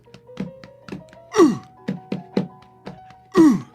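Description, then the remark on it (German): A fist drums on a person's chest in a quick, uneven series of dull, hollow beats, broken twice by louder, falling groan-like sounds, with a faint steady hum beneath. “Ja, ich auch, aber es ist vor allen Dingen die Faust, die auf meine Brust klopft.”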